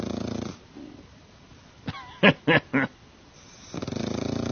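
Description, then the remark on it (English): A pug dog named Steve, who has had rhinoplasty surgery, snoring: rattling, buzzy snores at the start and end, with three loud wheezy snorts and squeaky whistles in between. No one speaks. “This is Steve snoring.”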